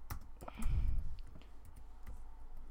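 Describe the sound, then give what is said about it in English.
Typing on a computer keyboard: sharp, irregular key clicks scattered across the moment, sparse rather than a steady rhythm, with a soft low thump early on and no voices. “Yeah, I'm not good at typing.”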